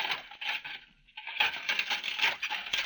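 Dishes being washed, a steady jumble of bright clinks and clatters with scattered sharp knocks and a brief lull a third of the way through, then busy clattering again.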